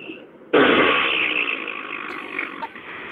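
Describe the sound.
A single loud raspberry blown with the lips, starting abruptly and sustaining a wet, flapping buzz for over two seconds before trailing off, with no talking over it.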